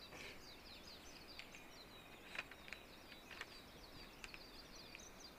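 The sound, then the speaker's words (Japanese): A Japanese white-eye sings a rapid, high-pitched twittering warble, fine chirps running continuously over a soft outdoor hiss, with a few sharper, louder notes standing out; no one speaks. “これがメジロです。一番大きな声で聞こえてるやつですね、はい、これがメジロです。”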